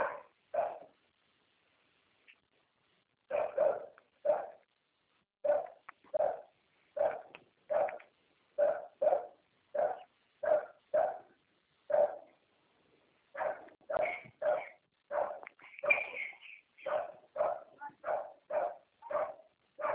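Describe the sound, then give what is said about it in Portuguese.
A dog barks repeatedly in a steady, rhythmic series of sharp, loud woofs, with a brief pause early on and no talking. “Tá maluco? Tem cachorro.”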